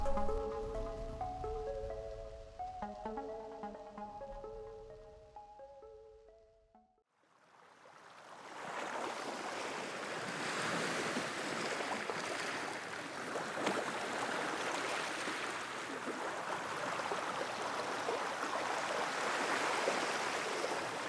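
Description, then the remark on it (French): A short melodic music passage fades out, then steady, rushing sea waves wash onto the shore at Locmiquélic in Morbihan, near Port-Louis and Lorient, a broad continuous surge of water that swells gently and keeps going without any voices. “Vous entendez ces vagues ?”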